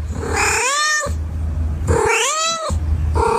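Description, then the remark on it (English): Two drawn-out meows from Cookie the cat, with rising-then-falling whiny tones, the second slightly longer, over a low steady hum; no one speaks. “Not to forget Cookie the Cat, of course.”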